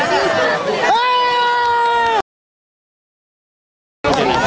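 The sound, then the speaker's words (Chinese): A lively crowd of onlookers on a seashore cheers and claps as fishermen haul a large seine net full of spotted scat fish from the sea, one voice rising into a long, sustained whoop over the noisy hubbub, then a brief silence before the excited crowd noise returns. “就把一箩筐的金钱再全部打捞上岸，画面看起来相当壮阔，所有人在一旁拍手叫好。”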